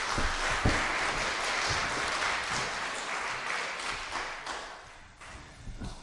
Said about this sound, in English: Excellent, go sit down, you guys. Give him both a round of applause.